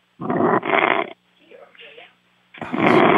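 Loud, rasping snores come through a muffled, narrow phone line: two heavy snorts, a softer wheezy breath, then another loud rumbling snore. No clear talking.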